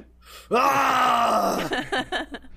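A PFC recruit's war face scream, demanded by a staff sergeant: one loud, strained, guttural yell held for about a second, its pitch sagging downward, then breaking into a few short, ragged grunting bursts.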